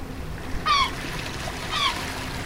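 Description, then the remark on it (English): A steady wash of ocean surf fills the background at the beach, with two short, bright seagull cries rising over the constant roar of the waves. “I'm recording the sounds of the ocean and the sounds of the seagull and maybe the sounds of a crying baby up in the parking lot.”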